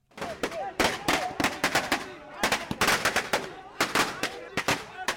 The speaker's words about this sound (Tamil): இப்படி பட்டாசு வெடிக்கும் சத்தம் தமிழகத்தின் பல பகுதிகளிலும் இன்று எதிரொலித்தது. அதிமுக பொதுச் செயலாளர் ஜெயலலிதாவுக்கு உச்சநீதிமன்றம் ஜாமீன் வழங்கியதை அடுத்து அக்கட்சியினரை பொறுத்தவரை தீபாவளி முன்கூட்டியே வந்துவிட்டது.